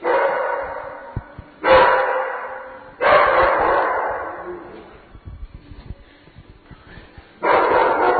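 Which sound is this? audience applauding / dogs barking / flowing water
dogs barking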